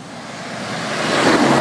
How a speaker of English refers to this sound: Oh my life, big wagon. God, oh man, I've never seen so much traffic.